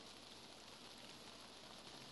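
Steady rain patters on a surface in a continuous, even hiss of many small droplets, moderately loud, with no voices.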